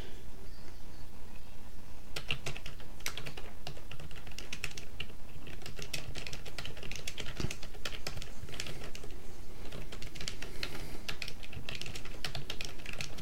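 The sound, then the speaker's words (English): Rapid, irregular clatter of keys on a computer keyboard as someone types a reply to a comment, fairly steady, with short pauses between bursts of keystrokes and no voices. “Now I'm typing back to a comment real quick, so just give me a second.”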